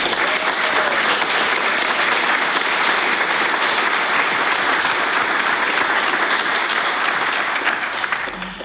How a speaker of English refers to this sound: certainly congratulations are in order for all our award winners here this afternoon. Let's have a round of applause for them all.